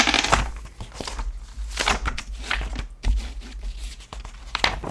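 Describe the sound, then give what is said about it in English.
Magazine pages are turned, a series of papery rustles and crisp flips arriving at an irregular pace, with no talking. “I keep turning the pages of this magazine.”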